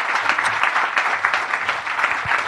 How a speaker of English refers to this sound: So obviously, a round of applause for my two wonderful co-hosts today,